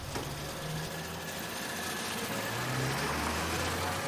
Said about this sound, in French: monte dans sa voiture et en route